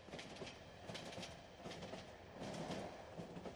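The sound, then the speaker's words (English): A train rolls steadily along the rails with a continuous rumble, the wheels knocking out a regular clickety-clack rhythm over the joints, fairly loud, with no voices. “Does this look like a normal train to you?”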